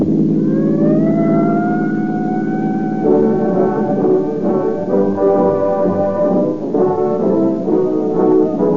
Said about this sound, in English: Tonight, there are thousands of police and sheriff's cars out on the streets and roads, pursuing criminals or cruising watchfully, ready to dash with sirens screaming to the scene of any emergency.